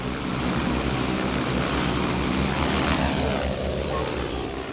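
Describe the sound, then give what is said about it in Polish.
A steady, droning whir of flying drones at an agricultural exhibition fills the whole stretch, loud and continuous with a low buzzing hum, while faint indistinct crowd noise lingers underneath. “Dźwięk, słyszymy szum dronów, szczęk pracującego na polu robota i robota rozmawiającego z gośćmi wystawy.”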